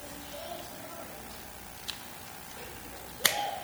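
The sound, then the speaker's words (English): A lighter is flicked twice to light a candle against a quiet background hum, first a faint click, then a sharper, louder strike with a brief scraping tail near the end. “These lighters are adult-proof, not children-proof.”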